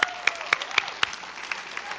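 A group of people claps their hands in steady, fairly evenly spaced beats, the sharp slaps standing out over a softer wash of scattered clapping in a reverberant room.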